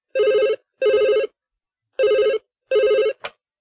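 A telephone rings in two double bursts, each a short trilling electronic ring with a steady buzzy warble, clear, followed by a faint click as it is answered.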